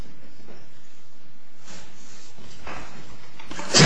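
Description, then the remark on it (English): During a court hearing, after a few seconds of quiet, faint rustling, a single abrupt, loud, breathy sneeze bursts out at the very end. “Bless you.”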